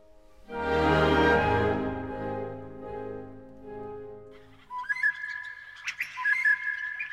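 birdsong

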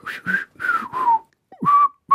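human whistling

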